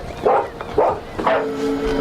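dog barking loudly

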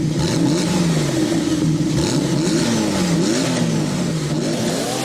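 car engine revving

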